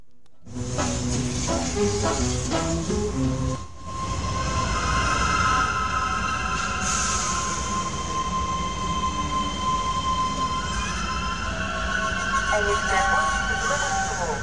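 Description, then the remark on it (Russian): A commuter train heading toward the city centre pulls into a station platform, its loud, steady rumble and whining, squealing wheel tones building, after a brief public-address announcement over the station speakers at the start. “Я стою на станции, и начинает прибывать поезд в сторону центра.”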